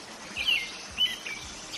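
Birds singing outdoors, part of a recording of birds, wind and water played over videoconference at the opening of a thought forum in Barcelona. A few bright chirps and short whistled phrases stand out over a soft, steady background hiss. No one speaks.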